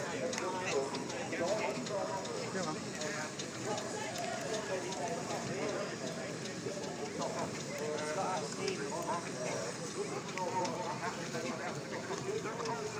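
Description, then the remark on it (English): A red steam lorry on road tyres, being raced around, runs with a steady, rhythmic chuffing and clatter that holds level throughout, mixed with the busy murmur of people talking. “This red lorry what we're doing, steam lorry what we're running around.”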